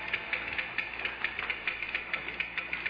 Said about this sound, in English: What with all these electric clocks and digital clocks and electronic clocks, the good old-fashioned ticking that marks off the minutes and hours of the night is rarely heard.